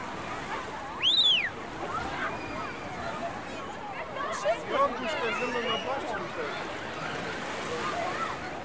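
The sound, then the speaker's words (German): Children splash and paddle in the shallow water of a children's pool at an outdoor public swimming pool, amid a steady wash of outdoor noise, with high excited voices and an occasional shriek calling out. “Ich erreiche zuerst das Kinderschwimmbecken. Die Kleinen planschen, während ihre Eltern am Beckenrand sitzen und ihnen aufmerksam zuschauen.”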